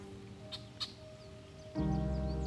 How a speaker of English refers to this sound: Hear the sounds of the birds chirping in the background, the sounds of the gentle stream.